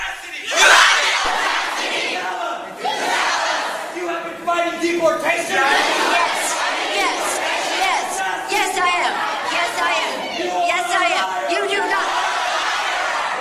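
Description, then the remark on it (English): A large crowd cheers and shouts in reception of Nancy Pelosi at a political event, many voices yelling together in a loud, sustained roar that surges and swells for over ten seconds without letting up. “Listen to the reception Nancy Pelosi gets.”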